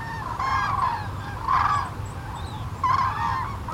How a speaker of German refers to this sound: Das sind die Kraniche, die jetzt mit ihrem Zug Richtung Süden beginnen. Im unteren Odertal beginnt heute die Kranichwoche. Sie machen dort nämlich Rast sozusagen auf ihrem Weg. Sie haben ihre Schlafplätze dort.